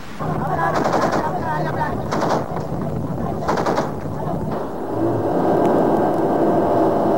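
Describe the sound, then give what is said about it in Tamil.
Loud, dense gunfire fills a sea battle: rapid machine-gun bursts come in several waves over a constant roar, with heavier shell blasts mixed in, as Black Tiger boats speed ahead through flying shell fragments. “குறுக்கே தெறிக்கின்ற எறிகணையின் சிதறல்களை கருத்தில் எடுக்காமல் கரும்புலிகள் கலங்கள் வேகம் எடுக்கும்.”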